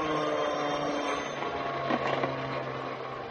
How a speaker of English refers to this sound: You better turn off the vacuum, Mama.